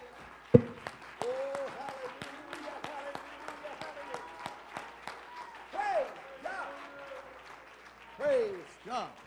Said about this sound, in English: Let's give the Lord a hand clap of thanksgiving for this wonderful revelation.